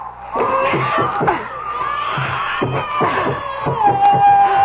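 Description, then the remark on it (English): A stubborn door that hasn't been opened in years groans and creaks with a long, strained squeal while it is pulled repeatedly, each pull landing as a heavy wooden thud, loud, with faint voices mixed in. “This door hasn't been opened in years. How could... Pull harder.”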